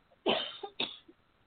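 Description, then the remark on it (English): Two quick, harsh coughs in succession from a person on a phone call, fairly loud, the first longer and stronger than the second, with no talking around them. “I don't mean to cough in your ear.”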